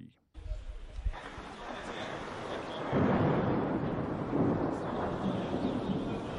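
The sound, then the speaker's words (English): A long, deep rumble of thunder rolls on continuously, swelling louder about halfway through, with a broad wind-like roar and hiss layered over the low boom, under dark clouds at the Mimar Sinan soccer stadium in Fatih, Istanbul, Turkey, before a football match between Somalia and Ghana. “Thunder and dark clouds threaten to ruin today's match between Somalia and Ghana, but nobody loses hope.”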